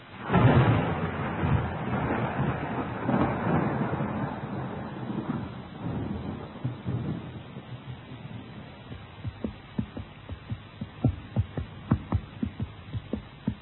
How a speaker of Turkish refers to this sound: Ansızın bastıran yağmurun farkında bile değildi.